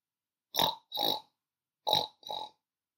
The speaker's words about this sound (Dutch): Waar zijn de varkens? Welk geluid maakt een varken?